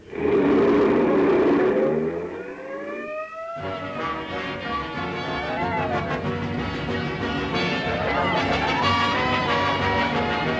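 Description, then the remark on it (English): A rising whine gives way to a steady, loud car engine rumbling along as the vehicle drives, its droning noise continuing without a break to the end. No one speaks. “Wait till we get in the car.”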